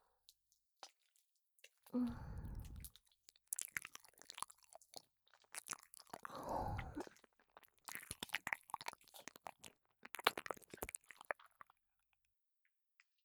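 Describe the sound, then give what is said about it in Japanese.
Wet, slurpy ear licking with saliva, the tongue tip going into the ear hole: soft squelches and sticky mouth clicks in irregular bursts, two fuller swipes standing out among scattered smacks, fairly quiet and with no talking. “舌先を耳の穴に入れて、唾液がどんどん染み込んで頭の奥まで私に支配されちゃうんだよ。”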